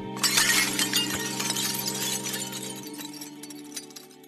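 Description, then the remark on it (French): A glass display case shatters with a loud crash as a creature strikes it with its beak, then a shower of shards tinkles and clatters down onto the floor for several seconds, gradually thinning out. No voices. “Des morceaux de verre tombèrent en fracas sur le sol.”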